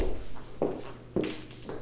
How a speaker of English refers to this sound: I'm going to pause for a second. Is there like a dripping sound somewhere? Are you getting that? It's in my head. No. You're hearing it too? Okay, I'm sorry. It is.